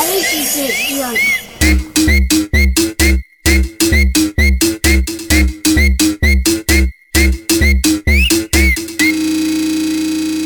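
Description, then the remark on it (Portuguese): Short, sharp human whistle notes repeat over a loud, choppy electronic beat with deep bass thumps, the whistle cutting in and out in rhythm with the stuttering music. “Hoje ela me conhece apenas pelo assobio.”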